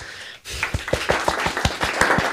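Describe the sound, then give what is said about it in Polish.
A short burst of applause given in response during an English lesson, about a dozen crisp, evenly spaced claps in a quick steady rhythm, fairly loud, with no talking. “No a co słyszę w odpowiedzi? No, oklaski.”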